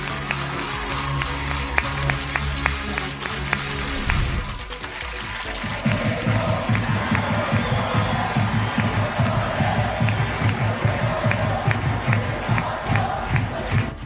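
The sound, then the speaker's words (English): A large stadium crowd chants loudly, produced by the Remote Cheer remote support system powered by Sound UD, with viewers clapping along. After a brief dip, steady rhythmic clapping joins the chant and keeps going to the end, full-sounding. “Viewers can also clap freely along with chants.”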